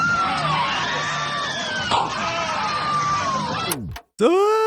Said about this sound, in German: Und was mir natürlich besonders gut gefallen hat, das möchte ich gerne als Nerd einspielen, ist hier ist der berühmte Europa-Achterbahn-Schrei zu hören. Ich spiele ihn mal kurz ein.